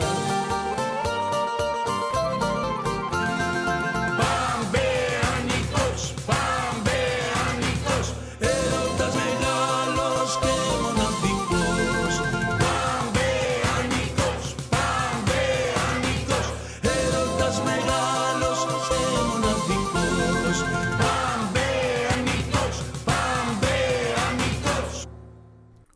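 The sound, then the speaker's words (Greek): The anthem of the Pampaianikos football club plays loudly and continuously, with a full band and a lead voice carrying a rousing melody over a steady beat, briefly pausing around the middle before surging back. “Εντάξει, ο ύμνος του Παμπαϊανικού, ας πούμε, μια χαρά.”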